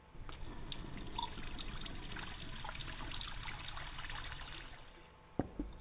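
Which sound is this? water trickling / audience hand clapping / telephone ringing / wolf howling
water trickling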